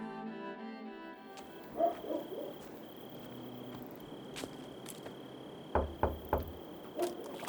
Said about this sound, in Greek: Ένα βράδυ χτύπησε η πόρτα και ήρθε ένα παιδί που ήταν αριστερός, αλλά ήταν μέσα στη μάχη, στους αντάρτες, καθόταν δίπλα μας.